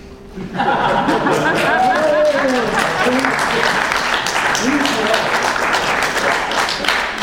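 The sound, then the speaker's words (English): Loud, steady audience applause breaks out after a brief moment and continues for about seven seconds, a dense wash of clapping with a few cheering voices mixed in. “And I just want to close with, that's, I think, an applause line.”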